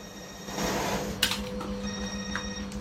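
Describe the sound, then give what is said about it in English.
A mobile phone rings with a steady electronic tone over a low mechanical hum and room noise, with a brief clunk partway through, in a laundrette where a man is repairing a washing machine. No one speaks. “Dressed casually in a checked shirt and jeans, Willie's repairing a washing machine in a laundrette when his mobile rings.”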